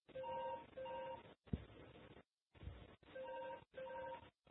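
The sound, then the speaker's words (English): A telephone sounds a series of steady two-tone beeps in repeating bursts, separated by brief pauses and a few dull knocks, with a thin, narrowband telephone-line quality. “Oh, I kill that phone.”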